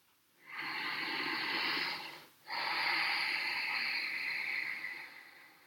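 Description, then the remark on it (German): Two long, steady ujjayi breaths of Ashtanga yoga practice, drawn audibly in and out through the nose with a soft oceanic hiss, an inhale then an exhale separated by a brief pause, fairly loud with no talking. “Im Ashtanga-Yoga wird auch oft die Ujjayi-Atmung angewendet. Das ist das hörbare Atmen.”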